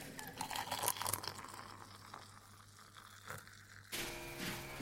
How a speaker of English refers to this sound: That's builders next door